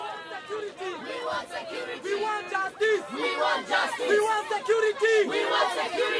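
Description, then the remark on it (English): A hostile crowd shouting at Mr. Mukaraba's Progressive Party political rally, many voices yelling and jeering at once in a loud, continuous roar with rising and falling cries that never let up. “Mukaraba, the crowd doesn't seem to be so friendly.”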